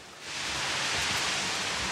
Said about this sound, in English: Raining.